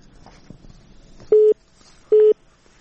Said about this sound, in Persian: تلفن قطع شد.